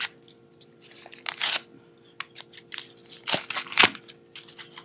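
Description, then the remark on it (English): The wrapper of a Stash licorice spice herbal tea bag is torn and crinkled open in a series of crisp, crackling rustles, with sharper, louder bursts toward the end and no voices. “I now open the bag.”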